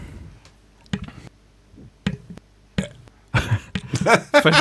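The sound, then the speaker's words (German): A throat clearing just before the person switches a microphone back on: a few short, abrupt throaty bursts spaced apart, then a longer, louder rough rasping stretch at the end. No one speaks. “Ich hatte ein Räuspern gerade noch und wollte einfach das Mikro nochmal anmachen.”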